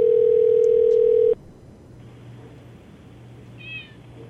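A phone line rings out on an outgoing call to a grandmother's home phone with one loud, steady electronic tone lasting over a second, then cuts to a pause of faint line hiss, with a brief soft meow near the end.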